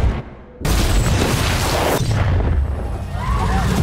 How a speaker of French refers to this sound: We have breaking news. A large explosion has gone off in the center of the city.